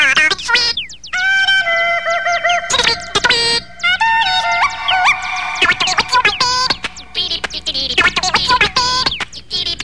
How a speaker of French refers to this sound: Même les volatiles de la faune ont commencé à la fredonner avant l'être humain. Écoutez attentivement le cri de ces oiseaux.